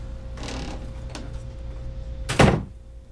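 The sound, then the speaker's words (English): A door swings shut and locks: a muffled scrape, a small click, then a heavy thud near the end. The sounds are fairly loud over a low hum, with no talking. “Hey, unlock this door.”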